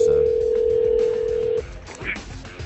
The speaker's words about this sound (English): I think we lost the connection with Aaron, so I'm actually ringing him back as we speak